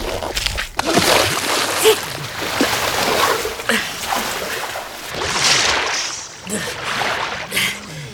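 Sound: splashing through water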